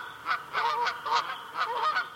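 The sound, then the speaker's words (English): Migrating Canada geese honk in flight in repeated overlapping calls, several birds sounding in quick bursts, returning from nesting in Canada and Alaska, with no voices present. “The migrating Canada geese heard here are returning from nesting in Canada and Alaska.”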